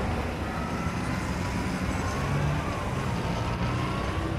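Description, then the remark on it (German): Steady, dense road traffic rumbles continuously, a broad wash of engine and tyre noise with cars passing and no clear gaps or voices. “Baulärm stresst, aber auch Straßenlärm.”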